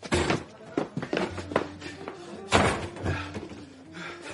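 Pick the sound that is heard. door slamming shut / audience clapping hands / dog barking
door slamming shut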